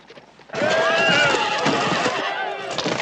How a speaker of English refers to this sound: Elsewhere, Colonel Tucker careens on horseback through a crowd of people gathered for a barbecue. People laugh and cheer as he knocks over a table. One of the cooks ducks as his barbecue is overturned.